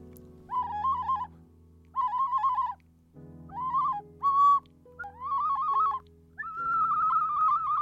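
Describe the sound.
An ocarina imitating a barnacle goose call: six loud, wavering hoot-like notes in short bursts with brief pauses, pitch wobbling and rising at the end, over a steady low hum.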